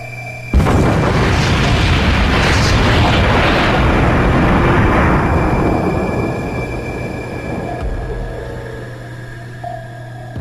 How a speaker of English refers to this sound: That explosion has our ears ringing. I'm looking at a complete audio overload.